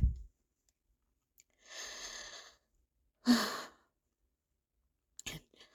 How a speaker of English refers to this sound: Sorry for the heavy breathing. Just so excited and still feeling stuffy all the same. It's messing with me a bit.